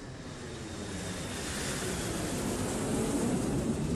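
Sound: airplane engine cabin ambience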